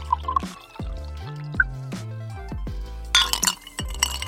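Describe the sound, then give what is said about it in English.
A drink is poured into a glass with gurgling, rising tones and a few bright clinks, fairly quiet, ending in a brief splashy burst; no one speaks. “Pour you a drink.”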